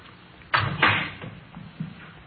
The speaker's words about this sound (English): Here we are. I'll get the door.